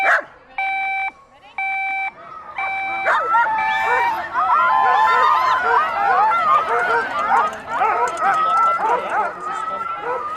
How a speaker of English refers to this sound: You see, we're just about to hear what 450 ecstatic dogs sound like. I've never heard anything like it.